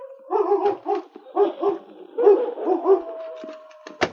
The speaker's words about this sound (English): As they opened the door of the shed, Butch's growls died away, and the big gray wolf stepped warily out into the open.